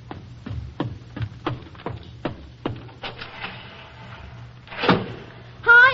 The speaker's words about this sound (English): Hurry, I hear a car coming.